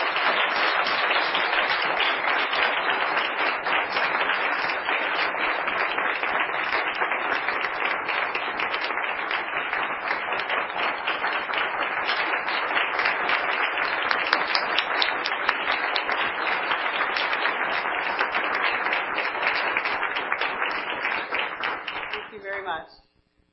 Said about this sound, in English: Keep shining. Let's give them a big round of applause.